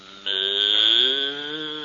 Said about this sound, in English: Get away from that cow. Is that a cow? I thought it was funny. All that plumbing and no sink.